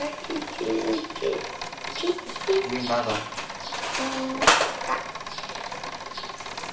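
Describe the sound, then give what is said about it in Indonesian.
A sewing machine runs steadily with a fast mechanical whir and clatter throughout, while people talk over it and a brief sharp knock cuts in near the end. “Mesin jahit.”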